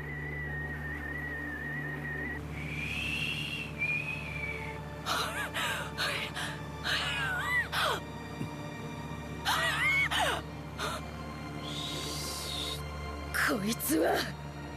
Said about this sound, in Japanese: どうかしたのか？ずいぶん呼吸が乱れてるな。